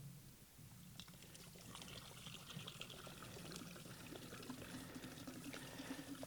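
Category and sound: household object, water being poured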